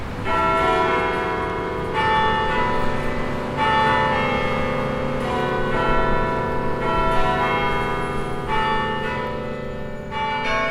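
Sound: church bells ringing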